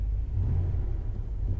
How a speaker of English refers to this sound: Don't know if you can hear that rev rev vroom vroom.